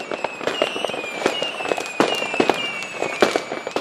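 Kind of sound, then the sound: impact, fireworks exploding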